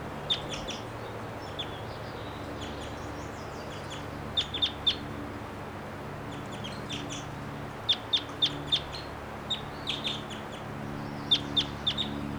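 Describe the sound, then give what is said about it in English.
Two wild birds cluck in short, sharp bursts, with several quick calls in each cluster and pauses between them, over a steady low background hum. “There are two birds here, wild.”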